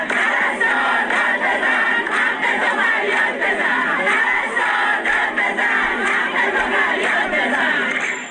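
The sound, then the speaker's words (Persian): A loud crowd of protesting nurses in Iran, holding empty tablecloths, shouting and chanting slogans together over their living conditions, a dense, continuous roar of many voices at steady volume throughout, with rhythmic surges of collective yelling. “در ویدیوهایی که از این تجمع در شبکه‌های اجتماعی منتشر شده دیده می شود که این پرستاران به نشانه اعتراض به وضعیت معیشتی خود سفره خالی به دست گرفته و فریاد می زنند پرستار داد بزن، حقتو فریاد بزن و یا وعده و وعید، کافیه، سفره ما خالیه.”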